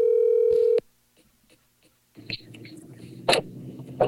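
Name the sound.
telephone dial tone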